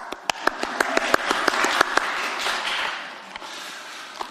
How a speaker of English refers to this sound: Round of applause